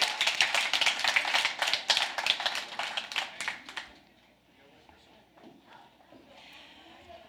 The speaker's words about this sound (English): first and foremost, happy Father's Day. Yeah, let's give our dads an applause.